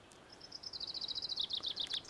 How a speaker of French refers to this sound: Et encore des pinsons.